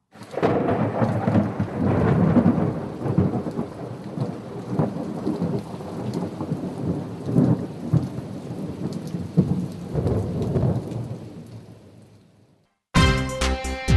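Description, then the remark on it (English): A steady wash of heavy rain with deep rolling thunder rumbling through it, loud, fading out near the end before an abrupt cut to a different sound. “Might be a storm coming, and we need to get into a safe harbour for the night.”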